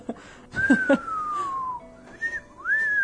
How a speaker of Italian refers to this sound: Sai, fischiavano bene gli apostoli. Cospita, oh, ma questo Tempio...